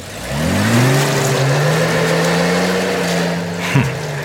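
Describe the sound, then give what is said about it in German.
A car engine, stuck in the middle of a river while trying to cross it, with crocodiles dozing in the water around the car, revs up and holds a steady, droning mid-pitched whine, rising briefly then settling, with a short sputtering dip near the end; no one speaks. “Gib nur mal Gas. Gib nur mal Gas.”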